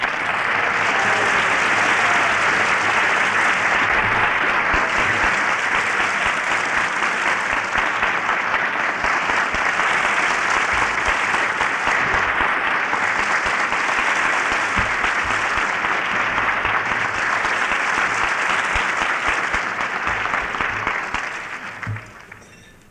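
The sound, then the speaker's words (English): A large audience claps steadily and loudly for Averell Harriman for over twenty seconds, a dense crackling wash of hands that holds strong throughout before tapering off at the very end. No one speaks over it. “That's the best applause I've had since they gave me a dinner here about 4 years ago, and I thank you.”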